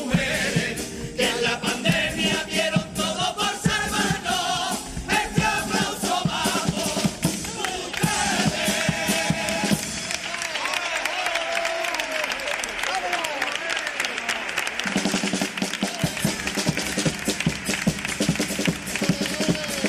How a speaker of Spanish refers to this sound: Con el aplauso, con este público que se levanta para sumarse a este reconocimiento.